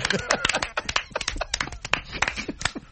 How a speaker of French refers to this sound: On applaudit encore une fois.